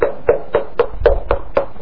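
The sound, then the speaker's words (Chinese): Steady knocking on a friend's door, seven firm raps in an even, quick rhythm with a slightly hollow, woody ring. No voices are heard. “他的邻居说，你给不给无所谓，我不会离开，我会一直敲门。”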